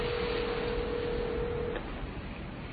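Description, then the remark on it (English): A single steady telephone ringing tone, from a call being placed to a parole officer, hums for just under two seconds over a hissy, noisy background, then cuts off, leaving only the static. “It's ringing.”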